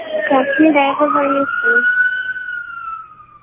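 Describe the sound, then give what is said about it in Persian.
A police siren wails steadily with a rising, sustained tone that slowly fades as it passes, while people talk over the first half. “ببین از بس اذیت میکنی پلیس اومده بگیرته.”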